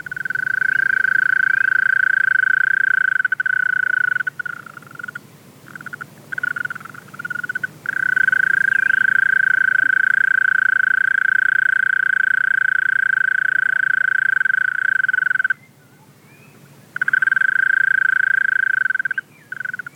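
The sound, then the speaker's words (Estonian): A bush-cricket's long, even buzzing trill, a song often mistaken for a green toad's, rings out steadily, with a few brief breaks midway and one longer pause near the end, with no voices. “Ja siin on võrdluseks kaerasori laulu.”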